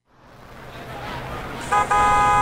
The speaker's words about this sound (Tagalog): Tara na, yun na yung jeep.